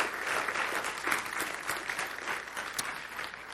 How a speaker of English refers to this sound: Give the Lord another hand clap of praise. Can you do that?